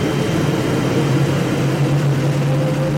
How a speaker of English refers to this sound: Then we hear this sound like a jet engine starting up.